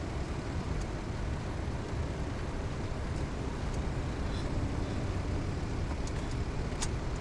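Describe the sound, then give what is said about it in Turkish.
Steady interior car rumble from a vehicle in motion, with a constant low engine drone and road noise holding an even level throughout, no voices present. “Arabadalar.”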